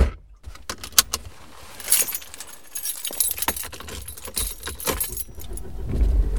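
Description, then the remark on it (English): Keys jangle in quick metallic bursts as someone gets into their car on a sunny fall day to drive to a favorite place to view fall colors, with soft thuds and shuffling and a low rumble underneath; no one speaks. “I got in my car and drove to my favorite place to view fall colors.”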